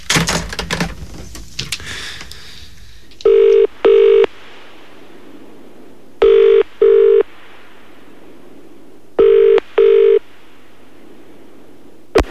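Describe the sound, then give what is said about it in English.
A short burst of clicky handling noise as a number is dialed, with 9 for an outside line, calling the star phone held by Charlotte Church; then a telephone rings in three evenly spaced double-ring pulses, loud and clear, with no talking. “She has to answer it every time we call on and pass it on to the next famous person she meets.”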